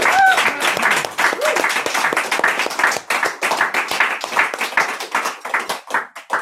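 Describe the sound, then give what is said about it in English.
A crowd applauds after a reading with dense, steady clapping for several seconds, loud at first and thinning into scattered individual claps toward the end, with a brief vocal whoop near the start. “Big round of applause.”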